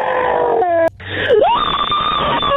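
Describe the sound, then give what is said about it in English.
A loud, drawn-out human scream recorded on a scream hotline voicemail wails, breaking off briefly before swooping down and rising into a long, strained, high-pitched cry that holds steady to the end. “I mean, you could just, there are just so many screams.”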